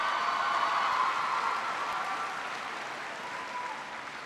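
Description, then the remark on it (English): Steady applause from a large crowd, many hands clapping in a dense, continuous wash that fades slightly toward the end, with no voices over it. “And by the way, men, you should have been standing up clapping for that because most families today are depending on two paychecks, not one, to get by.”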